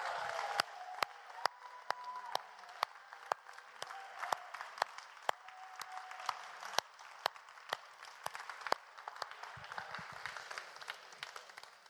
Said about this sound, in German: Und wir wollen dir so einen Jubel jetzt geben und so einen Applaus jetzt geben, Jesus. König Jesus!